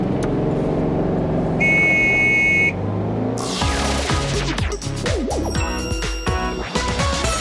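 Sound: car engine starting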